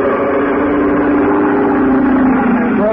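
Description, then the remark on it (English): A loud, steady airboat engine roars with an airplane-type propeller at the back of a roughly 12-foot, square-bowed hull skimming over the shallow water of a bayou, a constant droning hum with a low tonal buzz that holds even for the whole stretch, with no voices. “At the back was a powerful motor with a propeller of the airplane type.”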